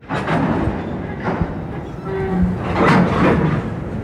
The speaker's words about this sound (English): It's 5 o'clock in the afternoon by the side of a railway line. As a freight train builds up steam in the distance, a group of ragged-looking men gather by the track.